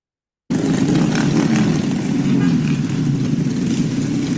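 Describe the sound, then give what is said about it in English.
Scooter and moped engines revving in a loud, continuous rough buzz that kicks in abruptly after a brief silence and holds steady, with no talking. “First of all, those are scooters and I guess mopeds.”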